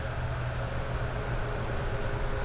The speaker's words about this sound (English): On the I-680 loop. You can probably hear the traffic.